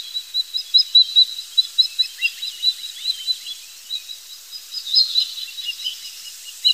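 A young osprey, recorded in Leipzig during the filming of a film, calls in a rapid series of thin, high-pitched chirps, repeated steadily for several seconds with slight variations in loudness, no voices present.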